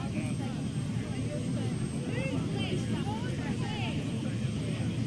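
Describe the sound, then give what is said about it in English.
A steady, loud engine rumble drones throughout as a helicopter runs before taking off, with faint murmuring voices of a crowd of people standing in letter formations on the ground. “Okay, if you're walking between the letters, if you could please find a spot, because the chopper's going to take off in a minute, and we really don't want any people walking between the letters.”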